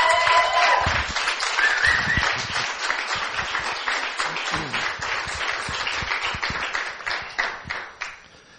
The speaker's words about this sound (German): Kommt doch mal nach vorne, wir geben euch einen herzlichen Applaus.